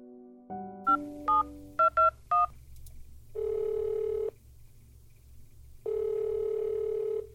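A phone line hums with a dial tone, then a quick run of about seven touch-tone beeps is dialed, followed by two long, buzzing ringback tones separated by a pause, as a call is placed about a project on the Magdalene Laundries.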